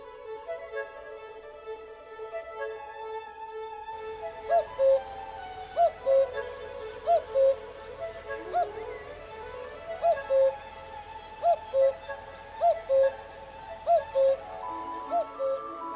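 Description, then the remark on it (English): Orchestral music from Respighi's adaptation, with many different instruments of the orchestra imitating a cuckoo's two-note call, repeated steadily at short intervals over a sustained, shimmering accompaniment, the calls fairly prominent and regular after a quieter opening. “He gives the iconic cuckoo bird call to many different instruments of the orchestra.”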